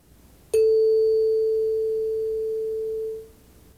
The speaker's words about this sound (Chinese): 在每个听音视力结束后，你会听到这样的铃声。